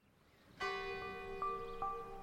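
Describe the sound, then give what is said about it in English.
The church bells of St Mary's in the village of Longworth ring out as a hearse moves slowly through the small village: a loud first strike followed by two more a moment apart, their resonant tones humming and overlapping without fading away. No one speaks. “the church bells of St Mary's ring as the hearse carrying Dr Kelly's body moves slowly through the small village”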